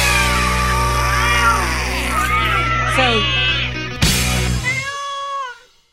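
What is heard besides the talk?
cats meowing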